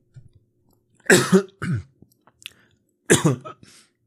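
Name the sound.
coughing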